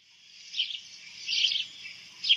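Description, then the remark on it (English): A house sparrow chirps in bright, high-pitched bursts, with three louder clusters of calls over a steady twittering background. No voices, just the birdsong at moderate volume. “I, for one, have always celebrated the humble house sparrow”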